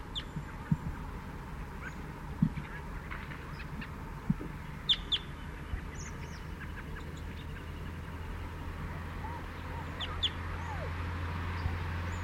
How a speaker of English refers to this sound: Flying lower again, going to a nearby pine. Stop. Chittering on the way in. Perched in the pine immediately behind the net. Chitter.